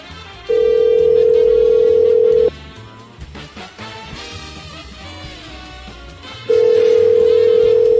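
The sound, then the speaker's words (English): A phone call to a manager rings out unanswered on the line: two long, steady, low-pitched ringback tones, each about two seconds, separated by a pause filled with faint background noise. “I wish your manager would have answered.”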